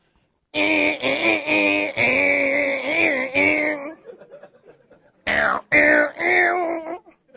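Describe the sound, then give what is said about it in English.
A voice imitates a distorted electric guitar with a loud, buzzing, wavering drone held for several seconds, then a brief pause and a second, shorter gritty burst. “Do you know what a distortion sound is on a guitar?”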